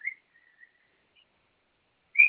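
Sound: cockatiel whistling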